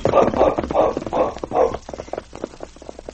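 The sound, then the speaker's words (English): A horse, Blackie, sets off carrying two riders, its hooves thudding in a quick, steady rhythm, then turning into lighter, scattered clip-clops that fade as it moves away. “I guess Blackie can carry the two of us. Get up, Blackie.”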